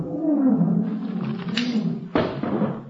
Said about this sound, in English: Professor, there's a lion in that room?